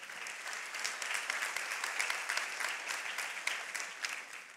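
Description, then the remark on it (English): An audience claps steadily for several seconds, a dense, even wash of many hands with no voices on top and no clear rise or fall in loudness. “You see, you can clap for that.”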